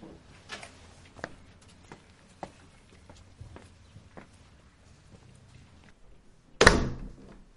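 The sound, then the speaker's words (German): Footsteps shuffle across a hard floor, then a heavy wooden church door swings shut with a loud, booming thud that rings out briefly inside the church. “Der Letzte macht die Tür.”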